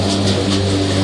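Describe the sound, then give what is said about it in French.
An old petrol lawn mower engine drones steadily and loudly, a low buzzing rumble with a rough mechanical rasp, holding an even pitch throughout the short stretch with no voices. “Ah oui, mais oui, là, tu nous as sorti la vieille tondeuse à d'accord.”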